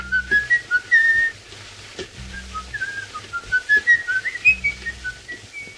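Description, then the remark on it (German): Peter Lorre, as M in Fritz Lang's 1931 film M – Eine Stadt sucht einen Mörder, whistles a tune, the notes rising and falling in short phrases, with a low, hollow rumble of instruments or background noise underneath. “Dieses Pfeifen hat sich in die Filmgeschichte eingeschrieben.”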